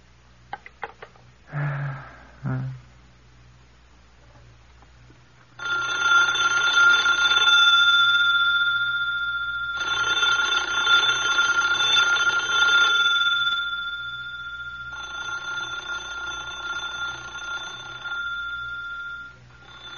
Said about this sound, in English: It seemed to me that night, all that night and in my sleep, that the telephone was ringing, trying to wake me, trying to warn me.